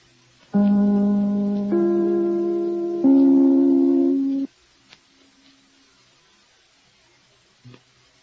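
The three-note NBC (National Broadcasting Company) broadcast chime rings out on the radio program The Big Show, each mellow, sustained tone struck in turn and blending into the next before fading to near silence with a couple of faint clicks.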